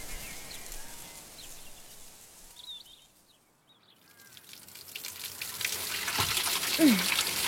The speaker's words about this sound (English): I'm washing your undergarments